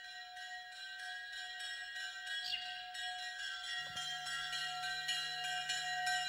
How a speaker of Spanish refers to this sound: Bueno, esas campanas que se acercan a nosotros con su tañido y con el piar de los pajarinos de fondo son algo posteriores, son del siglo IX.